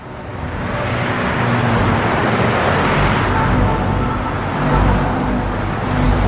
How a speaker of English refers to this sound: Elsewhere, a six-lane highway is packed with cars, buses, and bikes, stopping, starting, and stopping again.